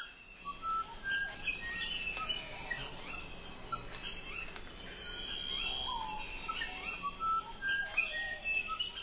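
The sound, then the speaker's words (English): Delicate, musical whistled notes of a musician wren ring out repeatedly over a dense Amazon rainforest chorus of other birds and insects, with no one talking. “Listen for the delicate call of the musician wren.”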